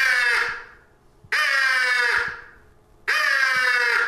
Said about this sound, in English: You hear that early in the morning? That's one crow looking for another. If you do that, he's probably going to come looking for you.